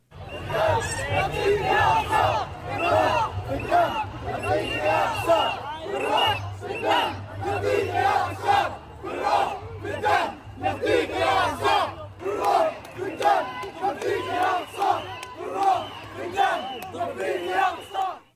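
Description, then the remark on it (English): A large crowd outside Westminster Abbey in London chants loudly in Arabic about becoming Islamic martyrs for the Al Aqsa Mosque in Jerusalem, voices rising and falling in a steady rhythmic cadence, with a low droning hum running underneath throughout. “That last clip was taken outside the historic Westminster Abbey in London as attendees chanted in Arabic about becoming Islamic martyrs for the Al Aqsa Mosque in Jerusalem.”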